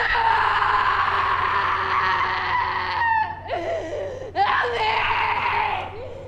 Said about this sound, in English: There's a startling scene toward the end of the film when you get an actress to essentially reenact Kitty Genovese's death, including that bone-chilling scream.